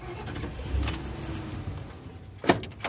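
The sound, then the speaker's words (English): Keys jingle, then a sharp click comes as a police squad car's engine starts and settles into a steady low rumble, in the small town of Laughlin. No one speaks. “starts up his squad car.”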